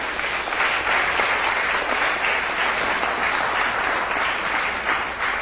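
Steady, full audience applause, many hands clapping in a dense, even wash of sound that holds at a loud level for about five seconds with no voices standing out.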